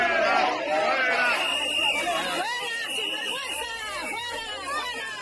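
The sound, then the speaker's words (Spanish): A large crowd in Seville, Spain, jeers loudly on a Saturday at Spain's head of government, Pedro Sánchez, with shrill whistles rising and falling over a dense, continuous roar of booing and shouting that fills the whole stretch. “Vamos, que el jefe del Ejecutivo va cómodo, es decir, que sabe ya de antemano que no va a recibir preguntas incómodas ni sorpresas como estos abucheos o pitidos que en primera persona sufrió este sábado en la ciudad de Sevilla.”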